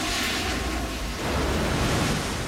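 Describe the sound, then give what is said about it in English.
A steady, full-bodied rush of bright blue liquid surges and churns as it fills a control room and swirls around, flushing down a hole in the center. It swells slightly louder midway, with no voices present. “They hold their breath as a bright blue liquid starts to fill the room and swirl around them.”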